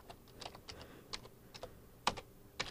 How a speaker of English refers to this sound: I think you guys can hear me typing. That was me putting in my password. I hope you can't hear letters through clicks.